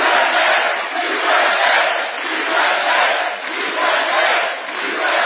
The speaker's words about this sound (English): An enthusiastic crowd greeted President Trump at a rally in a Cleveland suburb Saturday, the last special election before the midterms.